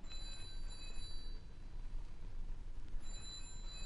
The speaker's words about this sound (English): It's the phone. Yes. Well, aren't you going to answer it? I don't think so.